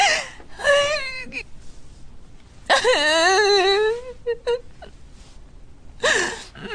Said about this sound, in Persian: تو دیگه چرا گریه میکنی؟